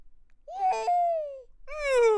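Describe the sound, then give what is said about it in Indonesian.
A child's high, sliding vocal imitation of a horse's neigh: a long wavering cry that falls in pitch, then a second brighter burst. Fairly loud, with no other talk. “Kalau suara kuda?”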